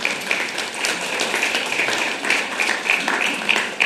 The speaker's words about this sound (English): We've raised 2/3 of the money, almost £1.2 million. That's incredible. You should give yourselves a round of applause for that. That's brilliant.